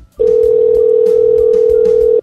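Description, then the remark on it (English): A steady, loud telephone dial tone drones continuously for about two seconds after the other caller hangs up, a single unbroken pitch with faint background murmur beneath it, then cuts off abruptly. “Oh, he hung up the phone.”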